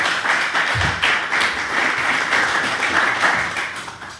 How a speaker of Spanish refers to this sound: Venga, pues chicos, muchísimas gracias, de verdad. Un abrazo muy grande. Otro. Aplausos.